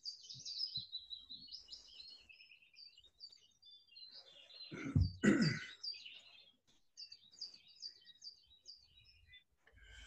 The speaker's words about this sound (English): And as a result, you relax even more deeply as you listen to the sounds of the birds in this garden, in this wonderful warm summer's day.